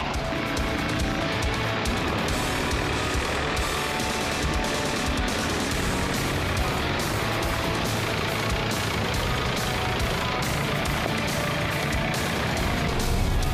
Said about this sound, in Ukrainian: Цей багі має досить символічну і змістовну назву «Варан», адже може дуже швидко дістатися з пункту А до пункту Б по будь-якій місцевості в будь-яку пору року.